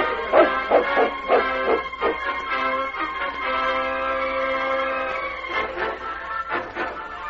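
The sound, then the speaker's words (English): A dog, King, a big, strong dog, barks in quick, loud bursts, then holds a long drawn-out whining howl before breaking into a few more sharp barks near the end. “And remember, the King here is a bigger, stronger dog than Thunder, and he's going to be right behind you.”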